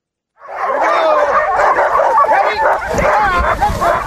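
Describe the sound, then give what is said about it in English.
Hundreds of sled dogs bark, yip and whine all at once in a loud, continuous, overlapping chorus that starts suddenly and keeps going without a break, at a summer sled dog tour camp on a glacier about 6,000 feet above Skagway. “About 6,000 feet above Skagway, hundreds of sled dogs spend the summer taking tourists for rides.”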